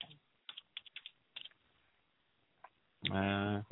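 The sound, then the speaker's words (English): Irregular clicking of keys as someone types on a computer keyboard in short bursts, followed by a person starting to speak at the end. “Of course, I didn't have that window open on my computer, so now I'm typing.”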